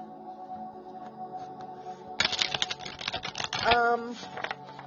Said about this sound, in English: So like I could have just stopped shuffling with that one card, but it's really odd to only get one card for him. So I'm like, let's see. And then like that next shuffle, a bunch just fell out.